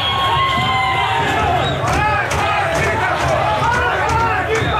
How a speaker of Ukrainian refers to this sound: Серед вигуків можна було почути смерть диктатору, незалежність, свобода, Іранська республіка, мулли, геть.